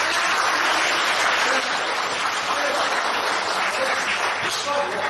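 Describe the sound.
Steady audience applause fills the whole stretch, a dense, even wash of many hands clapping at a fairly loud level, with faint murmurs of voices mixed in.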